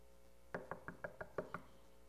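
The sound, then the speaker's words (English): Seven quick, evenly spaced knocks on a wooden door, clear, with no voices, then quiet. “If you want God's door to open, what do you have to do? Knock.”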